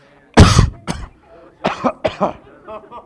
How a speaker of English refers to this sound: I think God almost got me. I was about to choke on that one.